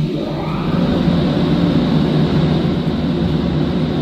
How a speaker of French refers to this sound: La soufflerie Malavar du laboratoire Prism qui peut aller jusqu'à 200 km/h.